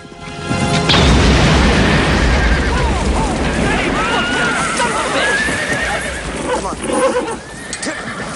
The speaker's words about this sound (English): Forrest and Masu race across the ground towards the gap. They jump over it. Forrest's and Masu's horses land on the other side. Together they ride away.